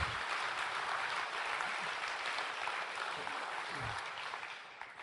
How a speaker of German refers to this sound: Einen großen Applaus für unseren lieben Prediger.